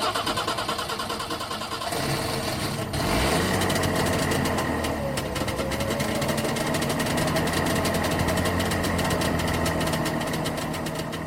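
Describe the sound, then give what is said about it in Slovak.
A Trabant car engine sputters to life after a couple of seconds, then runs with a loud, steady, buzzing idle and slight revving, with no talking. “Tak na záver tejto informácie si pokojne dajme ešte raz zvuk motora Trabantu.”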